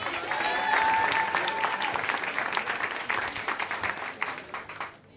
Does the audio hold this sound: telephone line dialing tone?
no